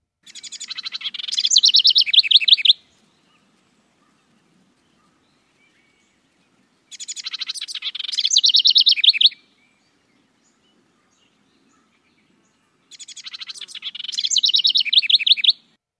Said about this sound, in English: But the house wren is a small brown bird common in Ohio backyards and across the country. Let's hear a bit from the house wren.